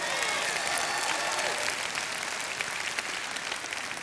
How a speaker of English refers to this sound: That is something to shout about. Don't just patty cake, clap loud. Come on, clap if you want to clap.